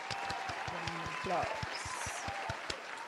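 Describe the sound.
Scattered applause from a small crowd for a speaker's plan to get active as a city council member, with sharp, fairly evenly spaced claps ringing out while a few voices call out and murmur underneath.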